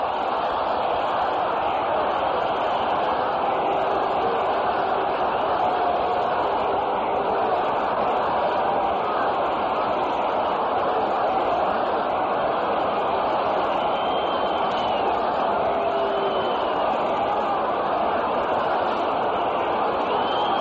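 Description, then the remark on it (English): A large baseball stadium crowd of Tiger fans roars and cheers steadily for about twenty seconds after a base hit puts runners on first and third with nobody out, a dense, continuous wash of many voices with no single speaker standing out. “And Tiger fans now have something to cheer about as Colavito steps up with runners on first and third and nobody out.”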